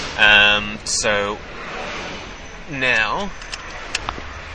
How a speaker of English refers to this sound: So now, trying to get around the traffic here.